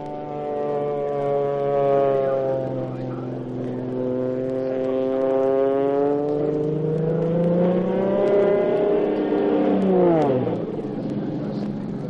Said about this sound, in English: he'll do his best to stunt that plane all the way up to 10,000